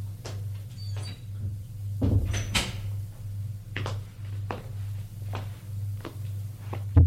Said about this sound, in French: Il frappe à la porte de la chambre de sa femme. Entrez ! Il entre.